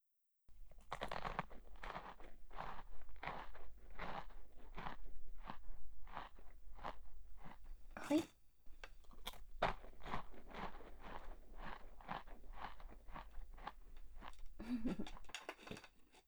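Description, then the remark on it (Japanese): Someone chews and bites into a chocolate pie, with steady, rhythmic crunchy bites and moist mouth sounds repeating for the whole stretch, plus a sharper crack partway through. “はい、おいしいチョコレートパイですよ。”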